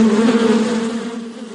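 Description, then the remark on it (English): A loud electric buzzing like hair clippers running, one steady droning hum with no voices, easing slightly softer toward the end. “I still think I like the first one better, but I just am always going to feel like I'm getting a buzz.”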